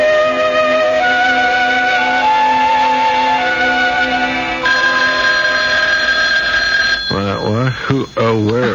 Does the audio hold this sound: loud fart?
no